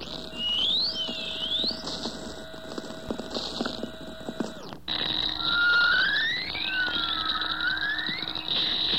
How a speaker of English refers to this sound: Then there are also some swishlers followed by sort of wavering whistles on the end, which wander up and down a bit in frequency and are rather pure whistles.